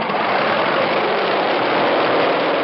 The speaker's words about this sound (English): That is not yet the sound of a jet engine. Jets, like Model Ts, need cranking to get up the speed of the engine. That's an auxiliary motor, about 25 horsepower, which is rolled up beside the plane to start it.